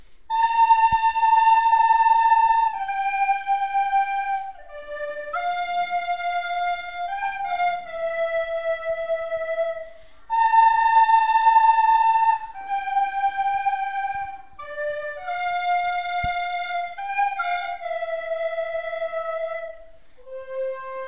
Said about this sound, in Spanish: Bueno, creo que tenéis preparado también algo con flautas, ¿no? Una rumba flamenca, ¿sí? ¿Lo ponemos en marcha o qué?